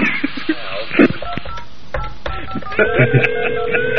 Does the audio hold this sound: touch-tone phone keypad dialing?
yes